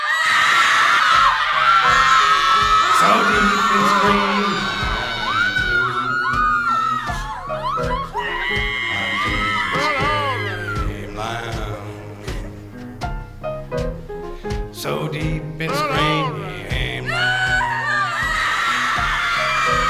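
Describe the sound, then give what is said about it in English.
Loud, continuous screams and whoops from a scream archive swoop up and down in pitch, layered over one another above a steady low musical backing, with no break for the whole stretch. “We take quite a bit of criticism for this, but we find that some screams just want to...”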